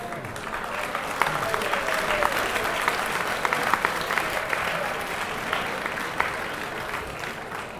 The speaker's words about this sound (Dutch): waarop de Hanse zaal rechtveerde bij een staande applaus voor die muzikant.